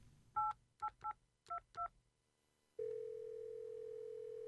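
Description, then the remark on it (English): Five quick touch-tone beeps from a phone keypad as a phone number is dialed to place a call, each a short two-note chirp in an uneven rhythm, followed by a steady, sustained hum of a line tone. No one speaks. “Yeah, I can call him.”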